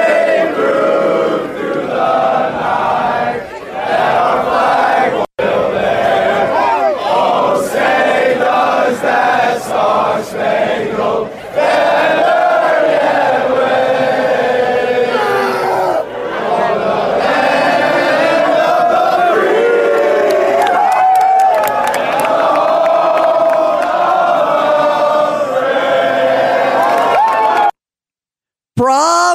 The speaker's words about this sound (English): And good old Ole Miss University, well, they shouted down the protesters by singing the national anthem. Bravo, bravo. Take a listen to this.